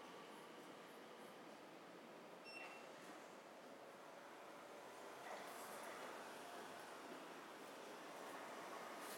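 A train pulling away, heard as a steady, continuous rushing rumble that swells slightly partway through. No one speaks, and the noise fills the whole stretch at a moderate level.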